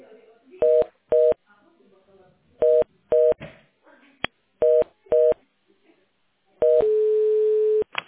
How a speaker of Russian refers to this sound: Похоже на короткие гудки, как бы. Я не клала трубку, я переводила как-то.